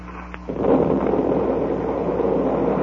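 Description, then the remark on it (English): A muffled underwater explosion from an explosive planted on a wreck and detonated erupts suddenly after a brief quiet moment, swelling into a loud, deep, churning rumble that rolls on steadily without fading. “That explosion must have ripped the wreck wide open.”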